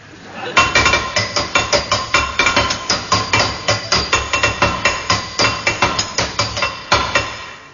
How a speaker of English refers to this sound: I can't turn this tap off, Henry. Give me the hammer.